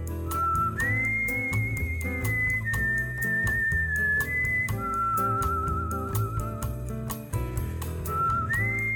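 A clear, sustained whistled melody glides between held notes over a full musical accompaniment with steady rhythmic backing, loud and close, with no talking.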